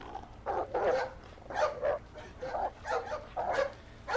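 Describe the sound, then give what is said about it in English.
A dog barks and growls in a steady run of rough, snarling bursts, about five or six in four seconds, moderately loud with no pauses for talk, as it catches up with a man. “And that's when one of the dogs caught up with him.”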